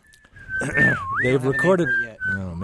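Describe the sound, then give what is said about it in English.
A clear whistled melody by a pianist and bassist duo, from their new CD, glides up and down in sustained pitches, with a voice talking underneath much of it before the tune continues. “Otherwise, you can hear them whistling on their new CD.”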